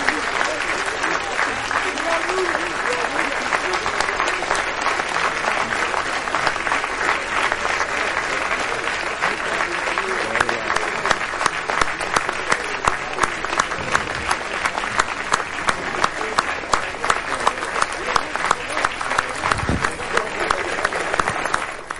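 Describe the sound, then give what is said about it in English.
A large audience applauds steadily for about twenty seconds as Derrick Henry is announced winner of the Heisman Trophy, a dense, bright wash of clapping with crowd murmur, sustained at an even loudness throughout. “And go past some of the applause here.”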